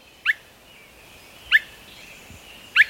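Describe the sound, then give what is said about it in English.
A Swainson's thrush gives three short, bright call notes, evenly spaced about a second apart, each a quick mid-high whistled chirp over a faint, steady background hiss with no talking. “Thomas Fuchs of Pennsylvania State University suggests that while migrating, Swainson's thrushes take numerous daytime micro-naps, lasting only a few seconds.”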